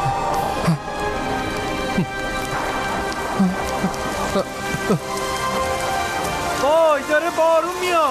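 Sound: rain falling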